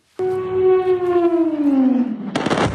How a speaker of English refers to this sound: Airstrikes over Venezuela's capital, Caracas, in the middle of the night. Powerful explosions lit up the night sky on Saturday as more than 150 US attack aircraft fired on key military sites, an airbase, airport, and port.